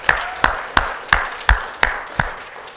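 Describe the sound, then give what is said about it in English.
An audience claps hands together in praise of God, seven sharp, loud claps on a steady, even beat about three per second, with no talking. “Give God a hand clap of praise in this place.”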